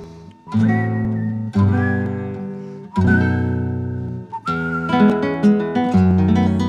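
A milonga plays at a steady, moderately loud level, with sustained melodic notes over warm low chords phrased in several rising sections. The passage is instrumental, with no singing or talking.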